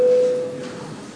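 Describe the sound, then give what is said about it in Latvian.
A single steady electronic bell tone, the parliament voting bell in the Saeima signalling a vote on a bill amending the postal law in first reading, sounds loud and clear, holding one pitch before gradually fading out over about a second, with no voices present. “Lūdzu zvanu, balsosim par likuma projektu grozījumi pasta likumā pirmajā lasījumā.”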